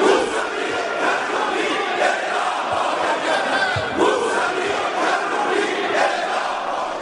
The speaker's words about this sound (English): Jonathan Broder, the angry shouts there.